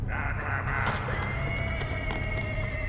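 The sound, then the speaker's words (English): A horse whinnies in a long, strained call that holds steady for a few seconds, fairly loud, over a low background rumble with no talking. “I don't think they count the horse.”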